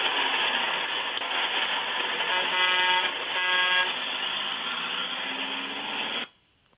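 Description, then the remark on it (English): A bus horn honks twice in two short, steady blasts over the continuous rumble and roar of the engine as the bus pulls out of the depot, then the sound cuts off abruptly. “who do we got with us on the old gospel bus tonight as we get rolling out here tonight out of the depot?”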